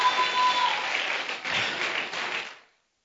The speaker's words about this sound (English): Oh, clap your hands and give him thanks and give him praise.